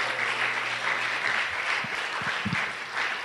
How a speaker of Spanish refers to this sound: Aunque usted y yo seamos infieles, Él permanece fiel. Dele un aplauso, porque eso es para aplaudirlo, ¿sabe?